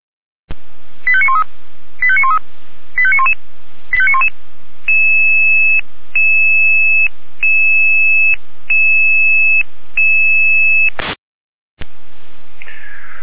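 Radio-transmitted fire brigade dispatch alarm tones at 18:21 in Jena, calling units to a fire alarm at a nursing home: four quick warbling bursts, then a string of steady, evenly spaced electronic beeps at two pitches, ending with a short pause and a burst of hissy signal.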